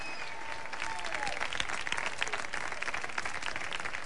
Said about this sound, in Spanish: Un aplauso para toda la afición de Carlos del Fútbol de Pañuelos, por favor.